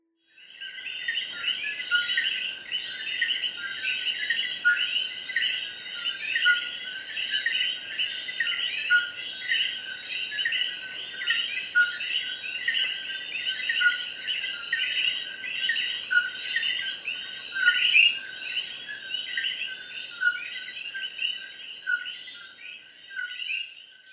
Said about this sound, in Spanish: El sonido de hoy fue el de un animal muy especial llamado el coquí. El coquí es un tipo de rana que vive en países tropicales como Puerto Rico. Es muy pequeño y tiene un color verde brillante.